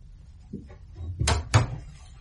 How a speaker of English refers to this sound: I'll open the door for you now.